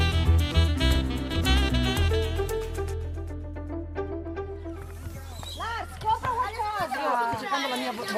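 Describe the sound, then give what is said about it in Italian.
Children play noisily in a small park playground, voices shouting and chattering with a steady outdoor babble, a low rumble running underneath most of the time. “Questo rumore che sentite in sottofondo è il rumore che ci accompagna da anni, il suono festoso del parchetto.”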